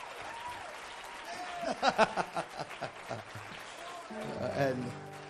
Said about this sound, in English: Let's give this man of God a great big hand. We love you.